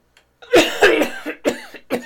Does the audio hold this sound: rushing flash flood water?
no